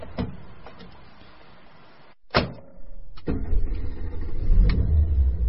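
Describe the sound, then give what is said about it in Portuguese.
A car door slams shut with a solid thump, followed by a second softer knock and a low, steady rumble of the car's interior as a boy settles into his father's car. No one speaks. “Entra no carro.”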